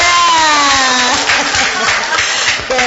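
At a group sharing session, a group applauds a participant with dense, steady clapping that fills the whole clip at an even loudness, while a faint voice or tonal hum carries on underneath.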